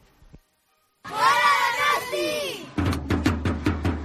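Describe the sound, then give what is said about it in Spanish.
A crowd of children's voices shouts a drawn-out chant of "Gora Donostia" together, loud and ringing, then breaks off as a steady run of sharp drumbeats takes over, at a children's tamborrada drum parade in Donostia on a sunny day, with drums and barrels being played. “Al grito de Gora Donostia nos contaban en COPE Euskadi lo que significa para ellos este momento.”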